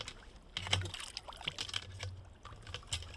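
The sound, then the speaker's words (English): A kidney-shaped, hard-shelled freshwater mussel, dug in against the river's flow, is lifted by hand out of the water: gentle splashes and sloshing, then water trickling and dripping off in a few quick bursts, with no talking. “Can we lift it out? I'll just take it out and show it to you.”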